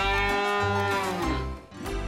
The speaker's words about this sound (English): Cow.